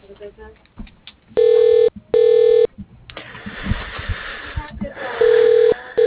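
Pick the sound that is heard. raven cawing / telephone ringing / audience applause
telephone ringing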